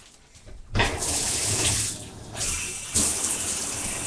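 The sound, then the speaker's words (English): After a short quiet moment, water bursts on from a shower head with jet and pulse settings and runs steadily and loudly, its hiss shifting slightly as the spray changes. No one speaks. “But I have to admit, it's only half the reason I'm getting in the shower right now.”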